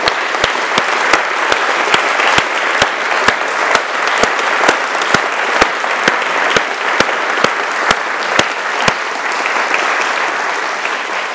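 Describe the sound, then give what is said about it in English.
A large audience at the RSA Student Design Awards claps loudly and steadily for the winners, a dense, sustained round of applause from start to finish, with sharp individual claps popping out above the crowd's wash of sound. “So, I'd now like to ask all of the RSA Student Design Awards winners to be upstanding, and then could everybody else joining me in a very RSA loud round of applause.”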